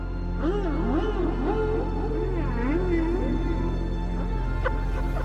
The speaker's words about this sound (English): A cultural crossroads. This whale is singing the song from the West.